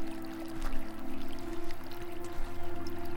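Continuous rushing and trickling of brook water, steady, with a low sustained hum running underneath and no voices.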